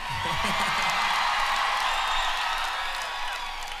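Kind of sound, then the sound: crowd, audience yelling and whooping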